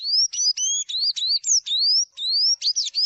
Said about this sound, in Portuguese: O canto que você acabou de ouvir é do pássaro Sanhaçu, ave que deu origem ao nome da cachaça. E esse passarinho, ele voltou a aparecer aqui na propriedade depois do trabalho de agroflorestamento que foi feito.